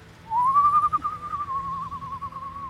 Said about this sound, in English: Stop whistling!